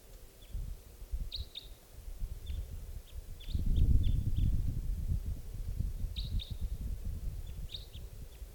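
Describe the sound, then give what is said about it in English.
Short, high-pitched bird chirps from birds fluttering around decoy cages, one coming closer, come in scattered bursts over a steady low rustling and rumbling background, which swells louder for a few seconds midway. No one speaks. “That's the other bird who just came closer.”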